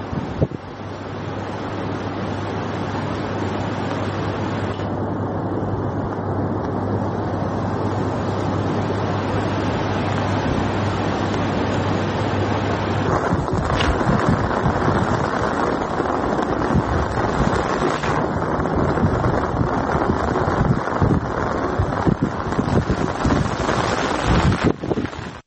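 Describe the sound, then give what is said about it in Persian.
Water pours and gushes down into the ancient stone well at Persepolis (Takht-e Jamshid), draining away quickly, in a steady, loud rushing roar that continues without pause, with a faint low hum underneath for the first half and no voices. “اینجا چاه سنگی تخت جمشید دوستان، همچنانی که میبینید هر چقدر آب به داخلش میریزه سریعا تخلیه میشه.”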